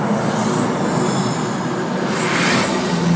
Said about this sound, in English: Before you do it, I forgot the... you got a dolphin sound? I forgot the sound effect. It's very important.